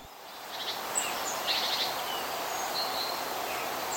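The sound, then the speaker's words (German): Steady outdoor forest ambience with a dense bed of high insect-like hiss, dotted with several faint bird chirps and short trills scattered throughout; no voices. “Da kann man sich gut runter was vorstellen, da denkt man schon so an Wald.”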